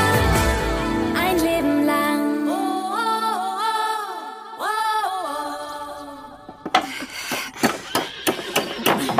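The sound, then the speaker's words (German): A melodic tune plays for several seconds, then gives way to a quick series of sharp hammer blows on a wooden slat, about seven loud knocks in an uneven rhythm. “Mal den Hammer geben?”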